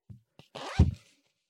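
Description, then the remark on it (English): A zipper is pulled in one quick, rasping stroke lasting about half a second, preceded by a couple of small clicks and ending with a soft thud. Fairly loud, with no talking. “Well, that was a good zipper sound effect.”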